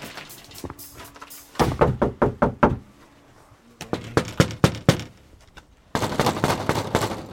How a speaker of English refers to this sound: Strong knock. Yeah, it's a fine line between the strong knock and the police knock, which you don't want to do.